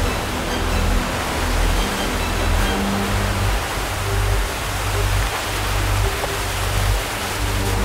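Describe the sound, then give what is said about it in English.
A powerful, steady roar of rushing water thunders without pause, broad and dense, as water pours out of a hydroelectric dam after spinning its turbines to make electricity; loud, with no voices. “The water escapes with the same ferocity that it spins the turbines, an awesome force with which to make clean electricity.”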